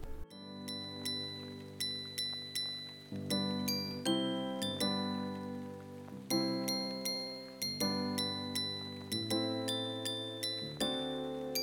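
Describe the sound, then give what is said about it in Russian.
Bright jingling bells play a lively, repeating melody over a warm sustained bass accompaniment, with crisp regular strikes ringing out clearly and steadily throughout, no voices present. “Так что же звучит на самом деле в этих колокольчиках для каждого из нас?”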